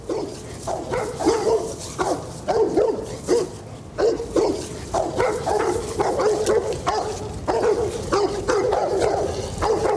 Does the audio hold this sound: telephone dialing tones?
no